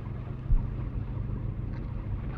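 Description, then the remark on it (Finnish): A car engine rumbles steadily, a constant low drone with a brief bump near the start and no voices, as the car arrives at a market square and stops beside a round tower. “Niin, ja nyt olemme tulleet jo tämän auton kanssa tänne kauppatorille. Pysäytimme tähän pyöreän tornin viereen.”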